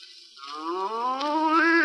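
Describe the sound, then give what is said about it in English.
A loud, drawn-out voiced snore of an Irishman in berth upper seven, a single groaning, moo-like rumble that swells and grows louder over about two seconds, apparently imitated by a human voice, with no talking. “He's snoring in upper seven, sir.”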